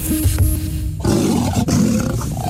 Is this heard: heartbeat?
no